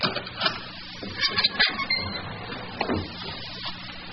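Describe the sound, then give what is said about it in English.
A wooden chapel door opens at 2 a.m. with dry scraping and creaking, punctuated by a few short knocks and rattles as it moves, then a longer rasping scrape near the end. “Well, here's the door.”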